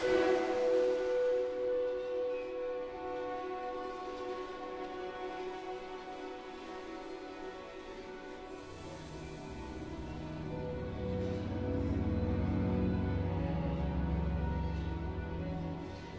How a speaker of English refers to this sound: what Adams calls a cloud of noise produced by the percussionists as they scrape on a variety of metallic objects like cowbells, automobile brake drums, and sizzle cymbals. These sounds are amplified and manipulated by the sound designer.